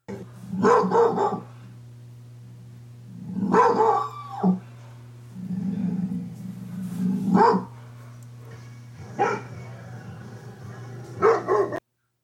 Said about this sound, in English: Their job is to protect. So absolutely. And their bark sounds like.